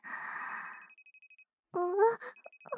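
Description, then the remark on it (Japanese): A mobile phone, not set to silent mode, rings with a thin, high electronic tone pulsing in a steady rhythm, a call from the mother in the countryside, heard alongside a breathy, moaning voice that rises and falls before the ringing continues. “謝罪なのに、マナーモードにしてなくて、すぐ切りません。相手が、その、お母さんです。”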